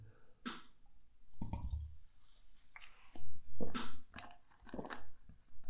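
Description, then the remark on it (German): Someone drinks water: a few wet gulps and swallows with soft mouth clicks and slurps, irregular and moderately loud, with no talking. “Wasser kühlt zumindest mal ein bisschen.”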